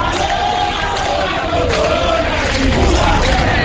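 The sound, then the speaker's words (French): A large crowd of Haitian demonstrators chants together in chorus, hailing the city of Gonaïves: a dense, loud wall of voices holding steady for the whole stretch, with rising and falling tones swelling slightly toward the end. “Mais c'est bien Gonaïves que la foule salue en chœur, la ville contrôlée par le front armé de résistance.”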